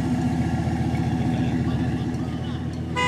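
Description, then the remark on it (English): An engine idles at the Pavilions Car Show with a steady, throbbing low rumble throughout, while indistinct crowd murmur and background activity fill the space around it. “I'm at the Pavilions Car Show.”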